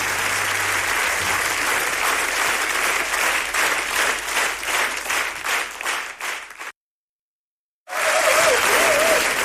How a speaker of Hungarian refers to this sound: Köszönöm szépen, Taps!